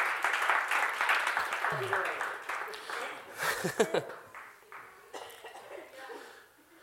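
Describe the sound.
Audience applause fills the first few seconds as a dense, steady patter of many hands clapping, then thins out and fades, with scattered voices, a cough and murmurs mixed in.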